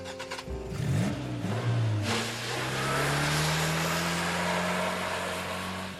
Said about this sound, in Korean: 난 마크를 만나기 위해 전속력으로 차를 몰고 갔다.